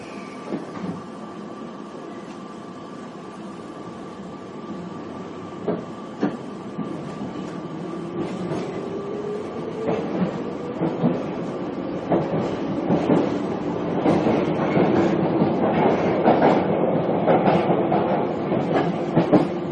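A London Underground Piccadilly line train to Rainers Lane rumbles steadily between Ealing Common and North Ealing, with a rising whine of the motors, rhythmic clicks over the rail joints and a loud, continuous roar.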